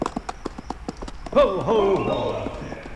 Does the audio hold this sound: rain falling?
no